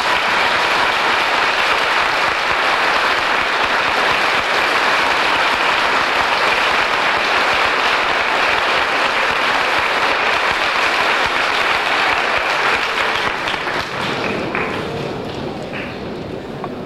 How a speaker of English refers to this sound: Thank you very kindly for these heartwarming applause.